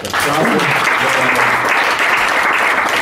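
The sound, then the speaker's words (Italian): A crowd at an album presentation applauds steadily, a dense, even wash of many hands clapping at once with no gaps, holding a constant loud level throughout, with a few faint voices mixed in underneath. “Un applauso.”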